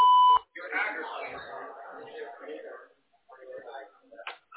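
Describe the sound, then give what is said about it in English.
A single short, loud electronic beep from an answering system sounds at the start, then stops abruptly as a person begins talking. “To connect and talk, just say your name and what you're calling about after the beep.”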